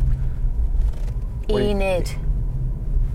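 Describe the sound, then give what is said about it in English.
A car drives around a corner past a church, with a steady, low engine and road rumble heard from inside the cabin, while a voice briefly speaks about halfway through. “One word review as we swing round the church.”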